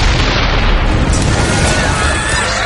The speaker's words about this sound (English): A massive hand moved, almost imperceptibly at first, quickly gathering speed. The hand clenched into a fist and smashed against the cave's rear wall.